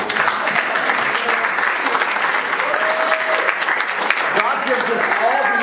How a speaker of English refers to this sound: I think we need to clap for the Lord. He's good.